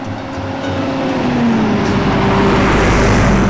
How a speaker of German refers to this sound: Da fährt er hin, der Bus, und schnell wird klar, ich bin zu früh ausgestiegen.